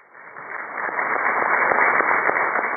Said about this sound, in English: Negotiators from both sides gave themselves a round of applause as they launched peace talks at a hotel in Caracas, Venezuela.